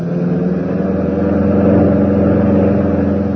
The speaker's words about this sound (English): As the Nazi squad car draws closer and closer to the dreaded Zaltzmar concentration camp